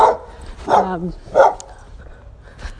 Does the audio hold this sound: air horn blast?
no